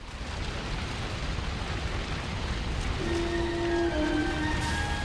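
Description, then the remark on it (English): A volcano, the Smoky Mountain, erupts with a loud, continuous roaring rumble, and a dense crackle of fiery rocks raining down. A steady, humming tone rises over it near the end. No one speaks. “They look at Chomper climbing up the Smoky Mountain. He's snapping at insects. It rains fiery rocks.”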